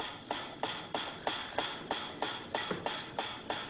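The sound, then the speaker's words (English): A metronome ticks steadily, about three sharp, bright clicks per second with a slight metallic ring, evenly spaced and unaccompanied by any voices; the ticking serves as the signal for food in a dog conditioning experiment. “Eventually, the dog salivated as much to the ticking itself as it did originally to the presentation of food.”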